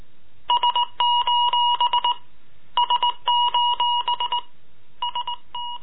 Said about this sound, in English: Morse code SOS.